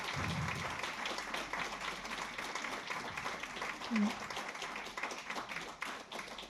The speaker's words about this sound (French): Bon, eh ben, écoutez, je vous propose peut-être d'applaudir et de remercier nos invités.